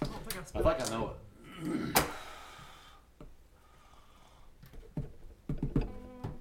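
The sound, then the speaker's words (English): Scattered clicks of someone typing an answer on a computer keyboard come in short, uneven bursts, with soft murmuring voices and breathy noises in between. “typing the answer”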